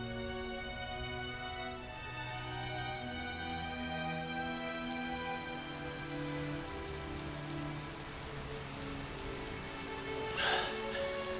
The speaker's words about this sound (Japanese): なんてひどい雷雨だ。こんな嵐見たことがない。